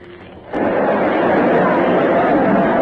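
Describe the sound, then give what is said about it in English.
After a brief, quieter start, the roar of an enormous crowd filling a city's central plaza surges in abruptly and holds loud and steady, a dense wash of many voices with no single speaker standing out. “There's a kind of terrace over the crowd here.”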